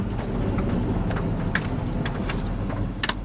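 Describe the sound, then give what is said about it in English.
A steady low engine rumble from inside a beat-up old work truck as it drives at dusk, with scattered metallic rattles and clicks jangling over the drone. No one speaks. “We stop in his beat-up old work truck at dusk to admire the Pepin Fire just across the valley.”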